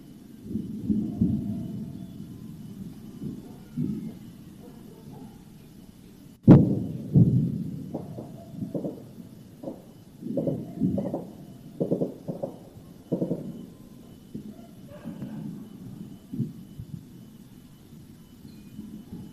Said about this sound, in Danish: Lyden i baggrunden for den her optagelse, det er nogen, der arbejder på at sikre nogle vinduer eller et eller andet. Så er der en hund eller to, der gør, og der er en fugl, der synger. Vi lader lyden af krig midt i Europas hjerte stå et stykke tid.